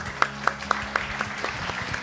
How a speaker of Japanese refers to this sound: 皆さん拍手でお迎えください。